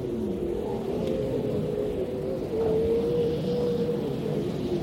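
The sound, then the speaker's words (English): Grey seals, in harems on the beach of a bay during the late-September pupping season, howl through the night in long, wavering, low-pitched moans that overlap and drag on without pause, set against a steady low rumble. No one speaks. “We anchored in the middle of that bay, and this howling was persistent through the entire night.”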